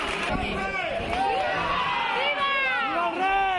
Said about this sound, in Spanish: Vivas al rey, que vuelve por tercera vez en estas 3 semanas desde que se desató la riada.